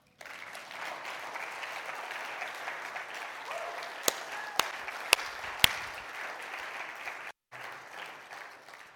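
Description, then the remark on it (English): A crowd applauds steadily with a dense wash of clapping, a few sharper individual claps standing out near the middle, then a brief cut before the applause resumes. “Can we give a round of applause to our Jesus?”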